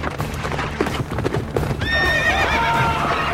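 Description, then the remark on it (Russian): Hooves clatter in a fast galloping rhythm for a couple of seconds as Peresvet and Chelubey ride apart for their duel, then a loud horse whinny rings out over continued hoofbeats. “Ой, уже разъезжаются.”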